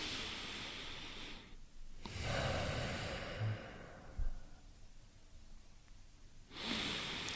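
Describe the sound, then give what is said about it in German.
Heavy, deliberate breathing: two long, noisy breaths separated by a short pause, then quiet, and a third breath beginning at the end. No talking. “Herhock und weißt du, so schnaufen, bewusst schnaufen.”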